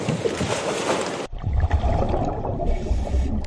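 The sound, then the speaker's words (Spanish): A motor launch carrying a Civil Guard agent during a training exercise moves across the water, opening with a loud rush of spray and wind before a steady engine rumble takes over beneath splashing waves, fairly loud. “Pues precisamente en esa lancha, junto a Garbiñe, estaba el agente Francisco Molina”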